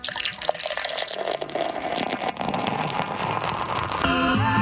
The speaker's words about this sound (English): That's a pretty good sound effect. You can hear the foam. That's a foamy pour. That's a crappy pour. It's a really foamy pour.